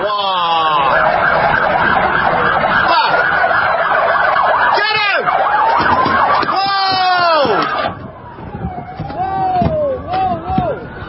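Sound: police car sirens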